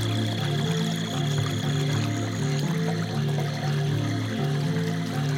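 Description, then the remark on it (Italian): Water from a warm spring flows softly and steadily into a small lake, a continuous gentle wash that holds an even level throughout, with a faint low pulsing underneath and no voices. “Il rumore lieve dell'acqua risuona delicato.”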